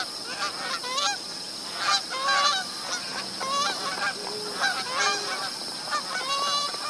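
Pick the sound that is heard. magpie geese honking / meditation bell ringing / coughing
magpie geese honking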